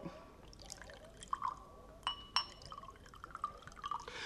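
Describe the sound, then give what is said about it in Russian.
Liquid is poured into glasses, with soft trickling and several light glassy clinks and drips scattered through the pour. It is fairly quiet, with no talking. “Наливайте, Николай Ильич, наливайте.”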